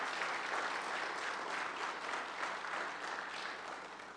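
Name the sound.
round of applause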